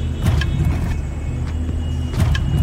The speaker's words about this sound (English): The light thudding noise that your car makes when passing over these patches of pavement could easily be overlooked in your morning commute.